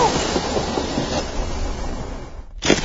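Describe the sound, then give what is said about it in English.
A train roars past under a bridge, a loud, steady rumble of wheels and carriages that briefly dips near the end before surging back. No one speaks. “I'll jump on the next train that passes under this bridge and hang on for dear life.”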